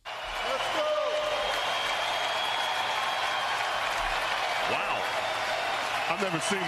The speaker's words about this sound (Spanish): Alucina el comentarista, dice que jamás lo ha visto porque está pidiendo el apoyo y el aplauso para Dirk Nowitzki, que es jugador del equipo rival. Todo el pabellón puesto en pie y todos los jugadores de ambos equipos agasajando al mejor europeo